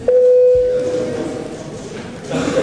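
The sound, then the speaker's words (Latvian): A parliamentary voting bell signal sounds as one steady, clear electronic tone held for about a second, fairly loud, then fades into a low background murmur, called before a vote on amendments to the prosecution office law in first reading. “Lūdzu zvanu.”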